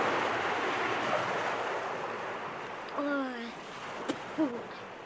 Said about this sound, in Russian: Пустить? Куда же это? Тут же кругом море!